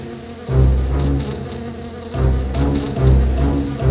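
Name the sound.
swarm of buzzing bees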